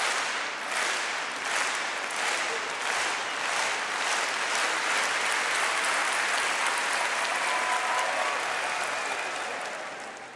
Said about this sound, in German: Es gibt eine Zeit zum Klatschen. Und es gibt eine Zeit zum im Takt klatschen.